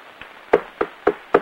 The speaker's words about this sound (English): Later, a sign on a shop door reads, Importers and Exporters. Killer Pepe knocks.